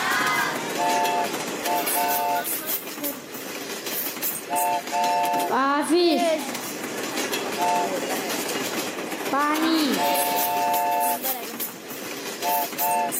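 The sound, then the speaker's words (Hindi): A steady, loud train-rolling sound effect in a quiz show, played as the brake is released and the train moves forward, with continuous rumbling clatter, short bursts of bright repeated tones, and two swooping rising-and-falling whooshes, with a brief voice speaking over it. “जी break एक मरतबा फिर छोड़ा है, ट्रेन छुक छुक करती आगे बढ़ेगी।”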